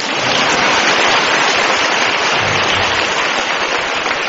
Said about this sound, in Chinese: 现在该鼓掌。